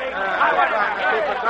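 A crowd of workers gathered outside murmurs and chatters steadily, many overlapping voices blending into a continuous babble with no single speaker standing out, holding at a fairly even level throughout.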